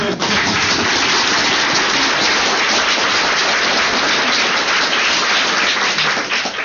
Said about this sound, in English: Go on. Now give all these new releases applause, too.